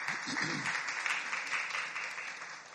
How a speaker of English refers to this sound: Give another big hand clap to the worship team.